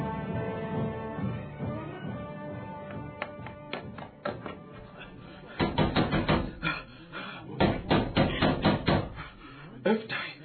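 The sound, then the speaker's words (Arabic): Loud, urgent knocking on a door, with someone demanding that the door be opened, comes in several rapid bursts of sharp raps, growing more insistent, over a low murmur of background sound. “الباب يا أم حكيم، افتح الباب يا امرأة”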